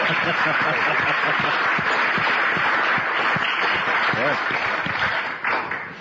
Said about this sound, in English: Okay. I think we should applaud. I think they're awesome.